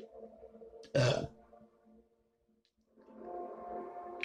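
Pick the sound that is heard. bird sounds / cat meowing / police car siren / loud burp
loud burp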